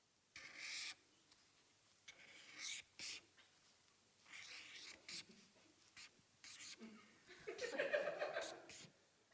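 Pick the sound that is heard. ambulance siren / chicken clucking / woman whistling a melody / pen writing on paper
pen writing on paper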